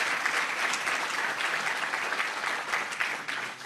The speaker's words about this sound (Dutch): Mag ik een groot applaus voor RTW Stichtsrecht.